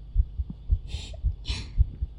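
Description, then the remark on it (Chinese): A young woman's rapid heartbeat thumps steadily, about three beats a second, with two brief soft breathy hisses passing over it midway. No one speaks. “是小姐姐的心跳音”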